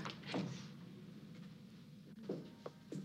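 A sliding door rumbles along its track with a low, steady rolling sound, framed by a couple of brief whooshing swishes and a soft knock near the end, with no one talking.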